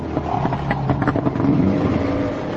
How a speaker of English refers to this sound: Bakoum and surf camp operator Philippe Apek are taking surfers by boat from the island to the shore. Today, they're going to a spot called Secrets.